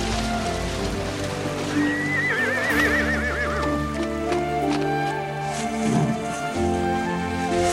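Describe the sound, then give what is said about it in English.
A horse named Weston, being ridden, lets out a long, quavering whinny, followed a few seconds later by a shorter, lower neigh, with faint hoof clops and a steady rain-like hiss underneath. “Just sit the horse.”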